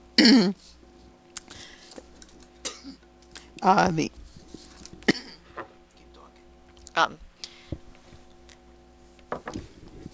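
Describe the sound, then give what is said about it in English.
Several loud coughs and raspy throat clearings come in irregular bursts, separated by short pauses with faint background noise and small clicks. “That was a cough break.”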